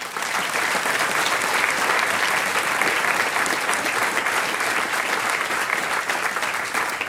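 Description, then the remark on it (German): Sustained applause from a sizable audience at a Kulturforum Heimschuh event in Heimschuh, applauding the event's organizer, a dense, steady wash of many hands clapping at even loudness for several seconds with no talking over it. “Der Karl Oswald, er ist auch der Obmann und Organisator vom Kulturforum Heimschuh und dem Karl Oswald spenden wir jetzt schon einen Applaus.”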